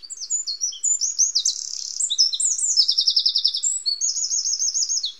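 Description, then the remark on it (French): A wren sings a rapid, high-pitched song of chirps and buzzy trills, loud, pouring out continuously for about five seconds with no one talking. “C'était le petit roi Telet.”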